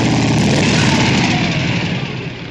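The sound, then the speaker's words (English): A car engine with a bad knock runs steadily with a loud, rough, rhythmic rattle, a fast repeating knock under the drone, fading slightly toward the end. No one speaks. “Sam, check the carbons on the pistons. You've got a bad knock there.”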